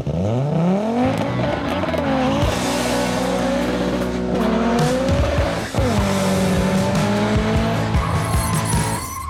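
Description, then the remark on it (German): An Opel Ascona rally car engine roars loudly, revving up and holding high pitch, with tires squealing and skidding across most of the stretch; no one speaks. “Die Motoren des Ascona laufen eigentlich gut, aber der Opel ist vom Fahrwerk her noch immer nicht erste Sahne.”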